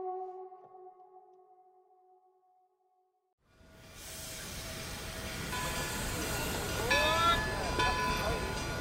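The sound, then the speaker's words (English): A train pulls into a station in Georgia on a wintry January day in 1924: after a fading sustained hum and a moment of quiet, a loud rumbling clatter builds and continues, with high metallic brake squeals rising near the end. “George and Imogene Remus step off the train”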